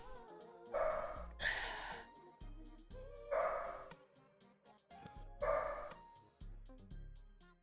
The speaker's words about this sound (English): What are you barking? Yeah, you crackhead!